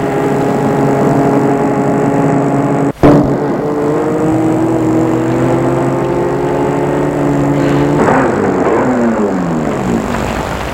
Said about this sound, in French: La voiture mène Gilbert chez ses parents.